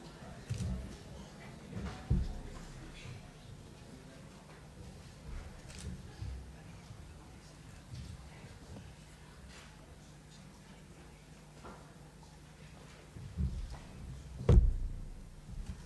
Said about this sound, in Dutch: Mochten er nog mensen zich buiten de raadzaal bevinden, kunnen ze nu nog binnenkomen? Over enkele seconden gaan de deuren sluiten.